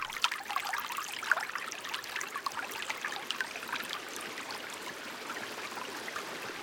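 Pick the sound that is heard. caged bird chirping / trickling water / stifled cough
trickling water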